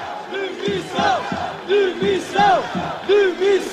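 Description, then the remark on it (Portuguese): A crowd of protesters at the Assembleia da República shouts a chant in unison, pushing toward the barrier at its steps, the voices rising and falling in a steady repeating rhythm, loud and sustained with layered overlapping voices. “Foram acontecendo gritos, gritos de missão, como se podem ouvir agora.”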